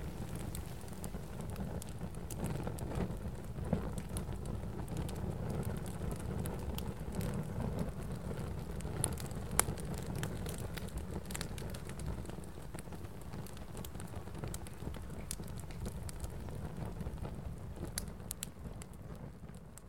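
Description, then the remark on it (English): A fire crackles steadily over a low rumbling roar, with scattered sharp pops and snaps breaking through at irregular moments; no voices are heard. “This fire, this minuscule version of a solar flare, was a tiny reminder of the energy of the sun. And its crackle, a reminder of the message of the Aurora.”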